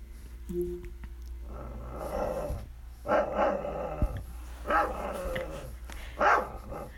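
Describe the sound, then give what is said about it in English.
An Alexa smart speaker plays a dog barking in response to a spoken 'woof woof' command. The dog barks in a handful of loud, separate bursts, some growly and some sharper, over a steady low hum, with no one talking. “So I'm going to talk to a dog, and this is the closest you can get to having a conversation with a dog.”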